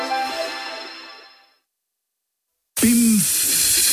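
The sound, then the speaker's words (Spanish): A tonal, ringing sound fades into a second of silence, then a loud, steady rush of air bursts out and hisses continuously until the end as a punctured car tyre deflates. “Pinchazo. Tu coche te está diciendo que lo traigas a Talleres Euromaster, donde sabemos mejor que nadie que lo que importa es que tu vehículo esté bien.”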